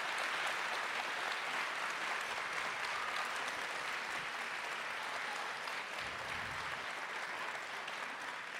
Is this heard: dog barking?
no